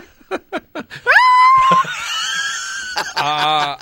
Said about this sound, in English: That's worthy of an eagle call, isn't it? Or an eagle cry